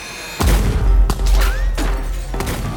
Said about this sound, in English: Just steps away from freedom when a guard challenges them. Before anyone can think, the sound of gunshots rip through the air.